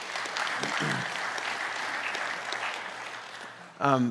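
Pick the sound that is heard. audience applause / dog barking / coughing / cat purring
audience applause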